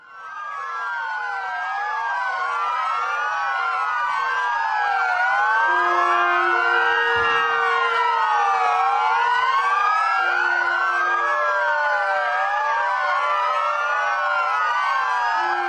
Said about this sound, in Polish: W samo południe w całej Polsce rozbrzmiewały syreny policyjnych radiowozów.